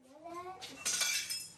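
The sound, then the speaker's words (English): Shards of broken glass clink and scrape together in bright, jangly bursts as a girl kneels and picks them up from a cushion on the floor, following a short high-pitched vocal sound at the start. “The woman says careful as the girl kneels and picks up shards of broken glass from a cushion on the floor.”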